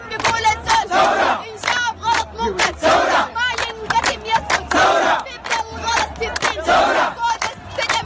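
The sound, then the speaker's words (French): A protest crowd in front of the army and intelligence services headquarters chants in loud, rhythmic bursts, with a woman dressed entirely in white, standing on a car, leading in song and the crowd answering in a steady call-and-response pattern. “Or, lundi, ça manifestait devant le QG de l'armée et des services de renseignement.”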